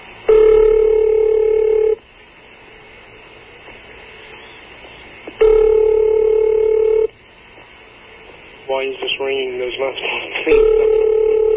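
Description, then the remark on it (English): A telephone line rings on the other end, a steady electronic ring tone repeating three times with long pauses, and a quick flurry of dialing tones sounding just before the last ring. “I don't understand why this is ringing here.”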